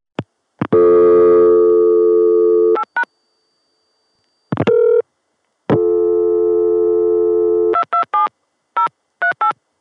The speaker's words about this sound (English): When I first tried to record 227 dialed on the Atlanta dial tone